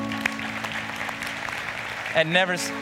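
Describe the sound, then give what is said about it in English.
A church audience claps steadily for people starting fresh in their walk with God, a dense wash of overlapping hand claps, with a low sustained tone beneath and a voice rising briefly above the applause near the end. “Can we clap for that?”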